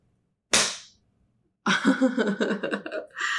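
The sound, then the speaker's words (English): A single sharp, loud slap of a hand on bare buttocks rings out and fades quickly. After a short pause, a person lets out drawn-out vocal sounds. “Look at how you jumped when I slapped it.”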